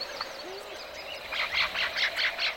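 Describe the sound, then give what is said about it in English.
Birds call in a natural chorus of a healthy habitat: a few thin whistles, then a run of about six quick, rhythmic, high-pitched calls over a steady hum of background wildlife. “Then come the birds.”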